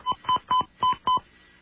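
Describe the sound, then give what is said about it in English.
Five touch-tone dialing beeps in quick, even succession, each a short, clear dual-tone burst separated by brief gaps, as a phone dials the number of a computer modem, followed by a moment of quiet. “And I'm sure the fact that we're calling a computer modem is going to make it even more bizarre, but let's see what happens.”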